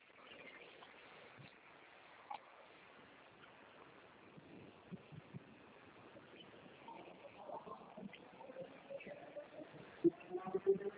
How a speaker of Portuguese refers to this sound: Meu Deus, que moto é essa?